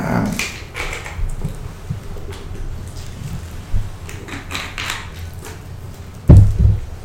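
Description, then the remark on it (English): A bottle of sparkling water being opened: scattered crackling and clicking handling noises with short airy bursts, ending in a louder low thump. No one speaks. “I'm just going to open this sparkling water here.”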